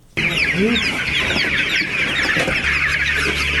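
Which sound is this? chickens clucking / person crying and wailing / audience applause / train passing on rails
chickens clucking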